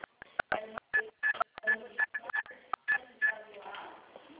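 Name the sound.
telephone keypad dialing tones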